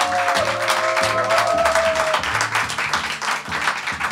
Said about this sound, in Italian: Quindi quelli che sono qua sono particolarmente coraggiosi, dunque un altro applauso a voi stessi.